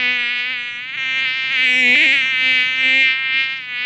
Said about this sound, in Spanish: Estaban tan eufóricos que no se dieron cuenta de un pequeño insecto que volaba sobre sus cabezas.